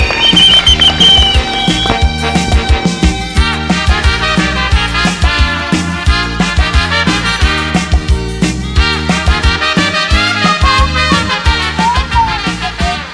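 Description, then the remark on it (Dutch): A crowd applauds loudly and steadily after a speech at a demonstration on a square with a fountain in the middle, dense clapping with some whistles and cheers mixed in, without any speech over it. “Lasst uns damit Fort Europa abbrechen. Applaus.”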